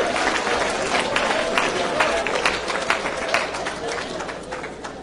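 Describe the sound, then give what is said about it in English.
A large audience claps steadily at a preacher's call during a sermon, a dense wash of overlapping hand claps with scattered voices and cheers mixed in, fairly loud and continuous throughout. “Somebody clap with me. Just clap.”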